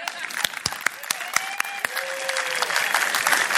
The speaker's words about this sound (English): Clapping's good, but if we're going to clap, let's do big clap. Let's do the Assembly of God clap.